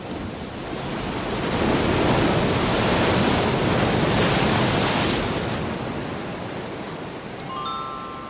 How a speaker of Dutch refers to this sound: Maar de storm blaast hem weg van het circus. Steeds verder de grote zee over.